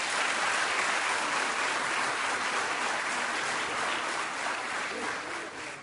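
Sustained audience applause, a dense, steady wash of many hands clapping at once, loud throughout and easing slightly toward the end, with no voices standing out.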